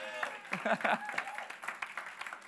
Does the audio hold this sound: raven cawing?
no